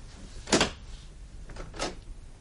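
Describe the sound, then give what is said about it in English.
A door is opened: a sharp rattling clack from the latch, then a quieter second knock about a second later, with no talking over the low background hum. “You can open the door,”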